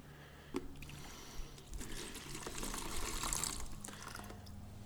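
Water is poured out into a wastebasket in a steady, continuous stream with a splashing, gurgling texture that swells slightly midway. It is moderately loud, with no voices.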